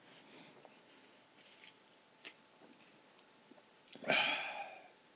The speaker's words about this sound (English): I'm slurping my beverage in the morning.